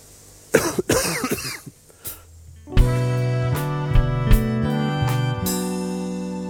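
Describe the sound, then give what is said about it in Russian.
A few short, rough throat-clearing coughs sound, then stop; moments later steady tonal music with sustained notes and a light beat takes over. “И даже если это слово «подумать» там у себя в мозгу подумаешь, и тут же, как бы извиняясь за него, споткнешься и откашляешься.”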